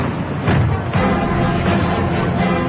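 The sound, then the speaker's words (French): Cannon fire booms twice in quick succession, deep and heavy, over a continuous roaring rumble of battle noise that stays loud throughout, with no voices. The cannon is fired from the ramparts on the order of la Grande Mademoiselle, against the king. “On dit que la grande mademoiselle sur les remparts a fait tirer du canon contre le roi.”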